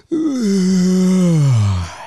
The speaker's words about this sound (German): Habe ich gegähnt oder wie? Ja, hast du.